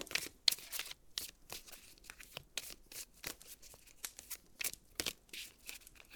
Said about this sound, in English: By the way, I really, really enjoy the sound of shuffling cards. For some reason, I find it oddly relaxing.